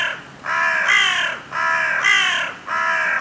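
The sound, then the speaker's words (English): A crow caws loudly, three harsh, drawn-out calls in a steady rhythm with brief pauses between them, and no other sounds around. “Let's listen to the sound of a crow.”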